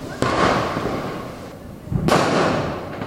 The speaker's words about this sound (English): It's after 10 o'clock, but there's still loads of fireworks lighting up the sky. There's smoke everywhere.